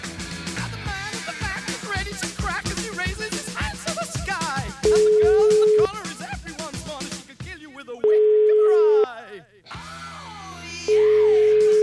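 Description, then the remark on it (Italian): A telephone call to a town mayor in the Canavese, Italy, rings out in three steady, mid-pitched electronic tone bursts, each about a second long with pauses between, following a stretch of busy music and voices. “Vediamo un po' se risponde, vai. Telefono?”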